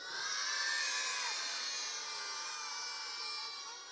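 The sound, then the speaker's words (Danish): A large group of voices at a tent camp shouts "Godmorgen" (good morning) very loudly in unison, one long drawn-out yell lasting several seconds, strong before tapering slightly, meant to wake those still in their tents. “Hvis vi skal sige godmorgen til dem, der ligger ude i teltene endnu, så skal vi råbe rigtig højt.”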